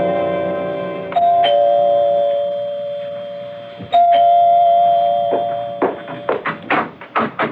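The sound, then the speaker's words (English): A doorbell at an apartment door rings loudly, its ringing tone sounding twice with a long ring each time, followed by a quick flurry of sharp, rapid taps at the end. “You can go to his apartment. You can ring the doorbell.”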